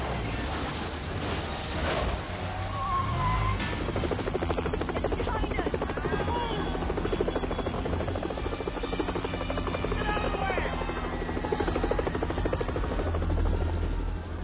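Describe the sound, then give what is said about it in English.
A helicopter flying through a market in a film scene roars, its rotor thudding in a steady, continuous beat that stays loud throughout, with a busy, cluttered background beneath the engine drone. “It's the helicopter through the market.”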